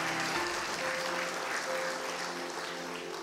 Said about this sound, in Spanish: Denle un aplauso a Cristo por eso, por favor.